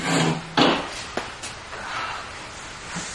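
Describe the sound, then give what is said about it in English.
A chair is dragged across a hard floor, a rough grinding drag with a louder lurch partway through and a couple of sharp knocks, no voices. “Dragging chair, that's me.”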